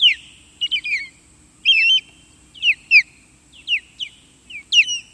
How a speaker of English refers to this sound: Large bird of prey is probably not what first comes to mind when you hear this chirping sound, but that's what we're listening to. An osprey. The osprey is the only North American raptor to feed exclusively on fish.